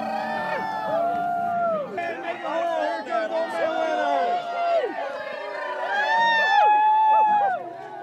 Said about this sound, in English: is given the honor this year of hauling Old Man Winter onto the bonfire amid cheers and howls from the crowd.